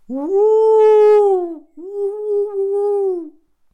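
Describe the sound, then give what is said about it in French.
A man, hands raised to his face, imitates a wolf howl in a clearing in Canada with two long, loud, tonal calls. The first swoops upward and holds, then a brief break, and the second holds steady before fading away. “Et 15 secondes après, dans les vastes espaces du Canada, j'entends toute une meute qui lui répond.”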